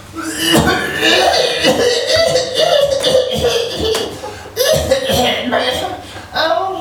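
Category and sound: human body sound, coughing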